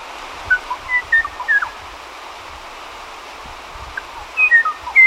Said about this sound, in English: The Kauai o'o, a forest bird, has not been seen in 20 years. Its bell-like song once rang widely through the mist-shrouded rainforest.